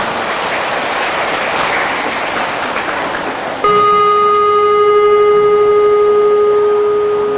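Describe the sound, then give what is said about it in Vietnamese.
A big round of applause from students at a teacher's request, a dense, steady wash of clapping for a few seconds, then cut off by a loud sustained ringing tone that holds to the end. “Nếu được thì hãy dâng cho một tràng vỗ tay thật lớn nào.”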